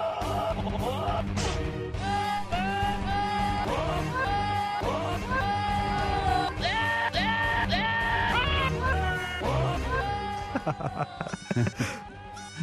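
Goat bleats strung together into a marching tune, the wavering cries pitched up and down in a steady rhythmic pattern over low backing music, loud and continuous throughout.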